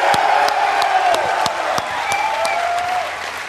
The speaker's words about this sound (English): There are 300 gamers that have been here for 24 hours. I'd like to give them a huge round of applause for coming.